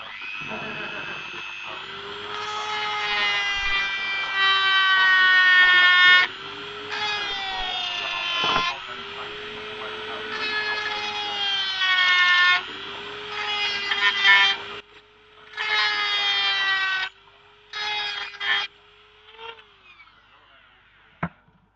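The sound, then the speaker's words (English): A high-pitched Dremel rotary tool whines steadily and loudly as it cuts through plastic, cutting out several times in short pauses and restarting, the bursts growing choppier toward the end. “For those who are interested, the Dremel we're using is essentially a mechanical dentist drill. Very good at burning through plastic, amongst other things.”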